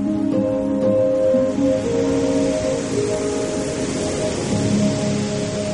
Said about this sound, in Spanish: Si hay un sonido que destaca por encima del resto en Nazaré, es el sonido del mar.